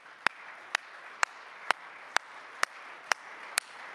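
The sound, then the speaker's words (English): A church audience claps hands in unison as a hand clap of praise to the Lord, eight sharp, even claps at roughly two per second over a soft, steady wash of background noise, with no talking. “In Jesus' name, if you could give the Lord a hand clap of praise.”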